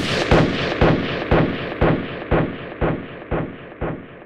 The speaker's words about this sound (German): Er dachte, dass einer bösen Fratze zu Leibe rückte, als er mit seinem Finger den Pistolenabzug drückte.